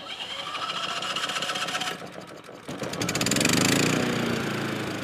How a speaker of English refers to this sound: his dad shows us his new generator.